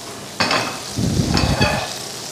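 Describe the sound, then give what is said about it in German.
A pan for Nockerl sizzles steadily on the stove, a broad hiss of frying with a couple of brief stirring or scraping bursts, fairly loud, no voices. “Da drüben brutzelt die nächste Pfanne für den Nockerl.”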